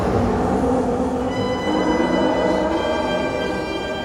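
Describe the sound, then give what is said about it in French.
A metro train rumbles loudly and steadily at a platform of the Moscow metro, with a high electric whine of layered tones joining partway through. The noise stays continuous throughout, with no voices. “C'est sur le quai du métro que Clayton ose enfin l'aborder.”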